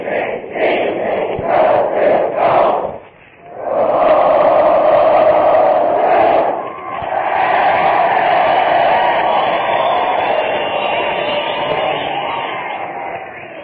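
A large crowd of Duke University freshmen cheers and shouts loudly as the hosts come on stage, with a few rhythmic bursts at first, a brief dip, then a sustained roar of voices that fades slightly toward the end.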